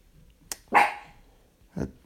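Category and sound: animal, dog barking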